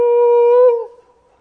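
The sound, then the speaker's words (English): A single loud, sustained "hoo" shouted by a voice, imitating a long-distance call once used to call someone way up the road. It holds steady for almost a second, then trails off quickly. “there's been times I could hear way up the road that we used to call like this. We didn't call Michael. It was a hoo.”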